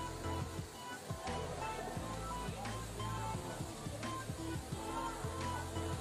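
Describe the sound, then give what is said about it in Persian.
The Abqad waterfall, in a valley at Abqad village in Chenaran, about 69 km from Mashhad, Iran, roars steadily throughout, a dense wash of water noise with occasional low thumps and rumbles underneath. “یکی از جاذبه های روستای آبقد در مشهد آبشار پرشور و خروش آبقد است که در 69 کیلومتری جاده مشهد با گوارشک روستای آبقد در چناران قرار دارد.”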